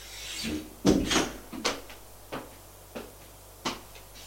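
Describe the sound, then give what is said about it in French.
An office door off a corridor being opened, heard as a string of sharp wooden clunks and latch-like clicks, louder at first and then spaced out and lighter, with no voices. “Un couloir, ouvre une porte, c'est le bureau.”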